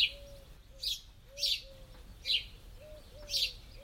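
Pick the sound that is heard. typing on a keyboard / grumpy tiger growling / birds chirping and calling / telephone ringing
birds chirping and calling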